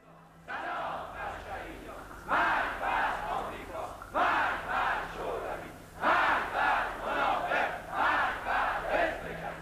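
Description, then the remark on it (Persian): Prisoners in Evin Prison chant and shout in loud unison: repentant members of the Mojahedin-e Khalq sing an anthem praising Ayatollah Khomeini while others across the hall shout death slogans against his opponents, voices rising and falling in steady rhythmic bursts of repeated phrases, with short pauses between louder surges. “در این صحنه عده‌ای از توابین سازمان مجاهدین خلق در زندان اوین سرودی در تجلیل آیت الله خمینی می‌خوانند و اون طرف سالن تعداد دیگری از زندانی‌ها فریاد مرگ علیه مخالفین آیت الله سر می‌دهن.”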